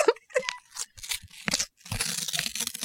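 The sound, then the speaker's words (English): Real paper is ripped slowly, a series of dry, crackling rips that stutter in short bursts before stretching into a longer, steady tear near the end. No voices. “Okay, wait, I'm going to do a real paper ripping.”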